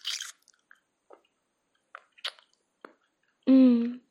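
Close, wet mouth noises: a breathy slurp at the start, then scattered soft smacks and clicks separated by quiet gaps, ending with a short voiced hum or moan.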